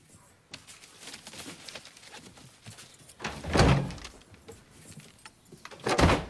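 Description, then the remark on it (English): Soft rustling and shuffling lead into a door being opened with a thunk as a woman carrying an armful of folders leaves, followed a few seconds later by a firmer close. Both sounds are moderately loud, with no talking. “With an armful of folders, she goes to the door, takes the photo cards, and leaves”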